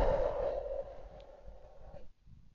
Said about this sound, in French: aujourd'hui, on commencera notre pratique par prendre contact avec notre respiration. On inspire et on expire.